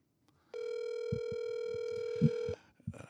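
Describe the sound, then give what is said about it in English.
A steady telephone dial tone hums for about two seconds as a call is being placed, loud, with a few soft thumps and clicks underneath before it cuts off abruptly. “And now, actually, I'm going to try to get our real special guest on the phone here.”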